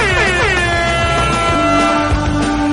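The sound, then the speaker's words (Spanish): A loud, sustained air horn blares continuously for a few seconds, its harsh, brassy tone bending slightly in pitch, with no talking over it. “¡Y toca la bocina!”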